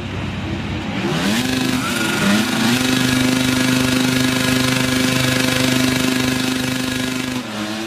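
Loud, continuous engine roar that rises in pitch over the first couple of seconds, then holds a steady, high revving drone, like several racing motorcycles revving together, as riders wait at the start lights of the Grand Prix of the Americas in a motorcycle racing video game.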